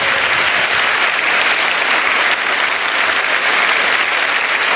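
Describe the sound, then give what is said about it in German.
Steady, dense applause from a large television-show audience, a continuous bright wash of clapping that holds at an even, loud level for the full stretch with no voices over it. “Vielen Dank für Ihren Applaus.”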